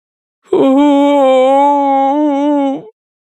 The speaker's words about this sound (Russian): Внезапно Фанму присел на корточки и разрыдался, вцепившись руками себе в волосы. Его рыдания были скорбными и мучительными.